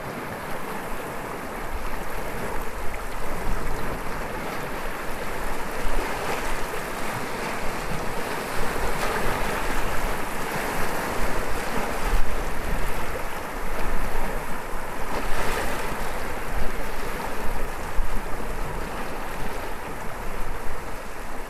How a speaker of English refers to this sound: The secluded beach coves of Second Valley, once covered with large pebbles and rock outcrops. Now, all immersed in water, the ocean risen and making its way to meet the cliff tops that overlook this part of the coastline.